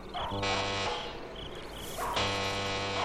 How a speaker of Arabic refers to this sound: هذا هو بيت الحاج مرتضوي، لأدق الجرس.